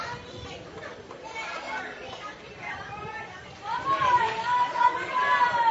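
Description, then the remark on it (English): Crowd of Washington County supporters with cheerleaders in ballpark stands during a ball game, a steady babble of many voices and children's shouts that swells into louder cheering about halfway through, with a thin high whistle rising above the noise. “Plenty of tension here in the crowd, but Washington County making themselves heard here in the stands.”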